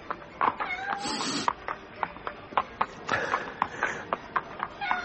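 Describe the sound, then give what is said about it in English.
A cat meows several times while rubbing up against a person's legs, short plaintive cries spread across a few seconds, with soft tapping sounds and light background noise in between. “A cat rubbing up against my legs.”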